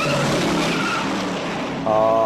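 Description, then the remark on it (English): Loud car tires squeal as a vehicle skids in a movie car chase scene on the hills of San Francisco, with Steve McQueen in charge. A sustained high screech rises over roaring engine noise, with a sharper burst of squealing near the end. “And it just, you know, squealing tires and people being thrown left and right and Steve McQueen being in charge.”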